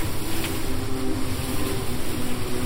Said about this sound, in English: I call, above the rush and roar of an ocean climbing into the sky.